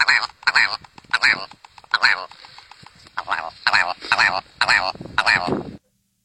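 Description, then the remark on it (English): A willow ptarmigan calls with a loud series of harsh, nasal croaking notes in an uneven rhythm, ending abruptly after about six seconds, with no voices present. “That is a willow ptarmigan.”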